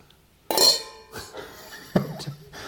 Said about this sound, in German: Oh, bei so vielen Gläsern können wir wenigstens mal dann auch einfach mal zweihändig anstoßen.